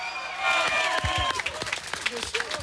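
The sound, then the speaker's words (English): A crowd claps and cheers for a performer, with bursts of whoops and shouts over a dense wash of applause; voices call out throughout, loud. “All right, let's hear it one more time for”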